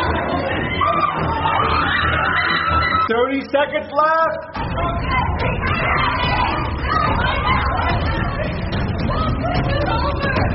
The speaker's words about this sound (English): Yo, I hear a lot of yelling. I think it's getting crazy in there.